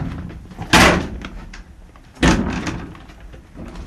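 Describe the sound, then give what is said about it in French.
Window shutters of a small den-like room with a large bed are pushed open with two loud wooden clacks about a second and a half apart, each followed by a brief rattle and quieter shuffling, with no voices; through them a coyote and a bear can be seen. “Voilà, donc là, à travers ces persiennes qu'on vient d'ouvrir, eh ben, on peut voir voilà, un coyote hein, qui nous regarde, nous aussi, un ours qui se balade au loin.”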